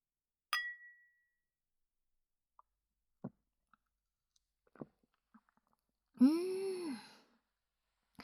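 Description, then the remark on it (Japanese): Two glasses of wine, a gift from a colleague, clink once in a toast, a bright ring that fades quickly, followed by quiet sips of the wine and small clicks, then a soft, satisfied exhale. “はーい、乾杯。”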